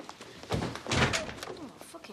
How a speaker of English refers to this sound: Nazir shows his sister and brothers into his office, but he slams the door shut on Stella and Peggy.